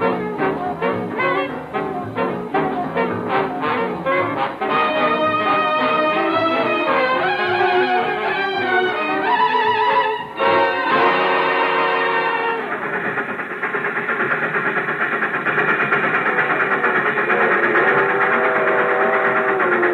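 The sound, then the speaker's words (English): A train with a boxcar rolls along steadily at night, wheels clattering in a rapid rhythmic beat beneath layered, droning whistle-like tones that swell and then settle into a steady, loud hum. No one speaks. “The train moved on into the night.”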